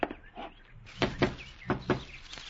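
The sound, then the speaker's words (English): Someone knocks on a door in two quick pairs of firm raps, followed by a softer final tap, over a faint, steady background with a few light chirpy tones. “get the door.”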